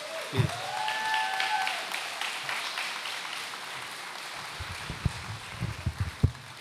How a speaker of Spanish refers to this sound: Le damos un aplauso, miren qué belleza.